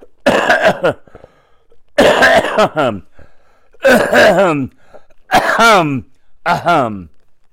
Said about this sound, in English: You see, that's what I've been dealing with. And my wife says, you're loud. And I am when I'm coughing. So sorry about that.